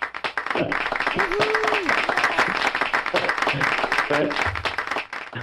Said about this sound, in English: described that applause as something likened to the applause of a putt at a golf tournament. So it only seems fair to welcome